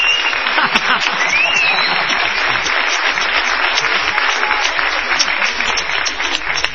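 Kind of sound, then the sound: crowd, studio audience applauding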